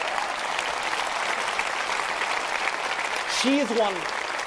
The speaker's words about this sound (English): Now, let's have another round of applause for her and the great job she is doing.